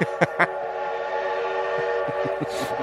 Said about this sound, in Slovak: Vlak z minulého roka konečne dorazil.